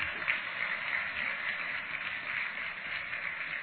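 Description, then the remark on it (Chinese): An audience applauds steadily for several seconds, a dense, even crackle of many clapping hands that holds at a constant moderate level without voices. “台长厉害不啦？鼓掌。”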